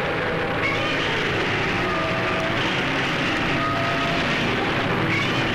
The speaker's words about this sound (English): Yeah. Love that Godzilla roar. Classic.